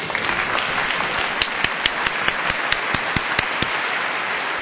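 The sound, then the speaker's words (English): A crowd applauds steadily, a dense wash of clapping, while a few sharper, louder claps stand out in a quick, regular rhythm through the middle. “I join in the applause because the bursts of Durst.”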